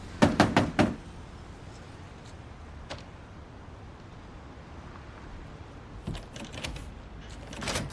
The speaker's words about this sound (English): Soon, she approaches the bathroom. The door is locked. She walks away. She approaches another door and knocks on it.